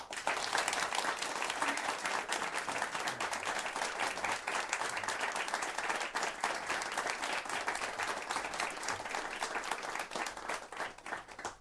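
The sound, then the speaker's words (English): An audience at a candidates' debate breaks into a sustained round of applause as the two candidates, Matt Getten and David Gill, are introduced, dense overlapping clapping holding steady and fairly loud for the whole stretch, with no one speaking over it. “But right now, I invite you all to give a round of applause as we introduce the two candidates, Matt Getten and David Gill.”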